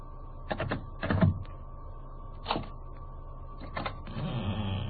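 Paper scrapes and rustles in a few short bursts as a letter is pushed under the door of a flat, over a steady low hum with no voices.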